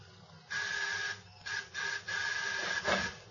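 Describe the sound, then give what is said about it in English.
Apartment doorbell buzzers are pressed to gain entry: a harsh electric buzzing with a steady, high-pitched tone sounds in several bursts of uneven length, broken by short gaps, loud and with no voices. “If I didn't know you was a bishop, I'd get the idea you got a head in the world ringing doorbells.”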